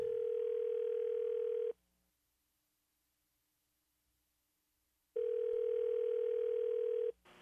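A telephone call being placed by a radio host to a man to tell him he won something: a steady, tinny phone-line tone sounds for under two seconds, falls silent for several seconds, then sounds again, loud and clear with no one talking.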